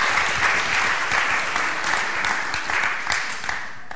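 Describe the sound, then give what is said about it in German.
Steady audience applause fills the whole stretch, a dense wash of many hands clapping, holding an even loudness throughout with only a faint hint of voices underneath. “Großen Applaus bitte von der Wikia Foundation.”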